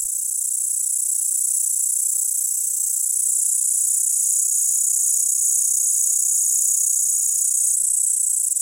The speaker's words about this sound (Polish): W piosence pasikonika śpiewającego nie można zatem usłyszeć oddzielnych tonów, a jedynie ciągły, jednolity świergot.